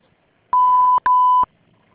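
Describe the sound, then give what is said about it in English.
Two loud, steady electronic beeps at one pitch, each about half a second long, separated by a tiny gap: the voicemail prompt of Global Trade Medical Supplies in Amsterdam signalling that recording has begun. No voices are heard. “Can you please be kind, leave your message after the beep together with your phone number and your name clearly, and we'll get back to you as soon as possible.”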